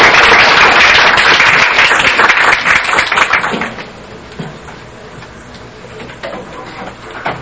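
Warm audience applause at a Christian gathering welcoming a pastor to speak, a dense burst of many hands clapping that is loud at first, then thins out after a few seconds into scattered claps and soft background noise.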